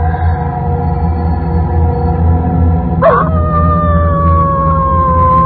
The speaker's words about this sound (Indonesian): Suara lolongan anjing itu masih terdengar jelas di telingaku. Sampai tiba-tiba suaranya menghilang.